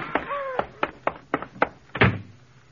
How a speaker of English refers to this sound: He's going to knock over the toy shelf. Look out.